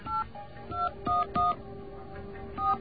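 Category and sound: signal or alarm, telephone number being dialed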